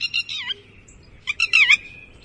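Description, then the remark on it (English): Two bursts of a lapwing's shrill, high-pitched call, each a quick string of sharp, squeaky notes with a slurred, rising-falling final note, over a low background rumble. “Chiming in with a did I do it? Call, a little lapwing there was.”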